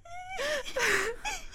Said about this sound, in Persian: مادر جون، مادر جون چی شده است؟ چرا گریه میکنید؟